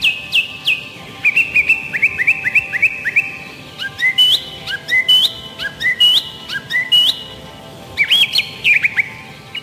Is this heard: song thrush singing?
yes